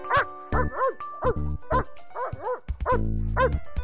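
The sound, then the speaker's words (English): A dog barks in a quick, uneven run of about ten sharp barks and yips, some stretched into whiny howls, loud and clear with no talking. “A dog.”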